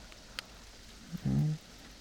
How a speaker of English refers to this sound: Is it the rain that woke you?